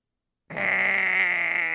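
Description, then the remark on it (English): A person imitates a goat with one sustained, nasal bleat that starts abruptly after a brief silence and holds steady and fairly loud for over a second, with no other sounds. “Goat. Like, what noise do goats make?”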